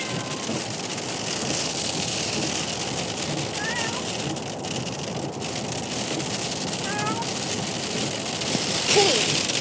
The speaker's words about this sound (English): Stop freaking out. I know it's hailing. I know you're in the car and you're miserable.